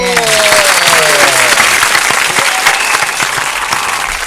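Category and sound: crowd, applause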